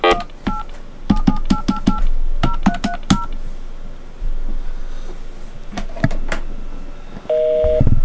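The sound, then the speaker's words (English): A rapid series of telephone keypad tones beeps out a number as a call is placed to Teletrust, followed by a steady buzzing busy signal near the end. The tones are clear, with no talking. “Busy! The Lord is too busy to talk to me.”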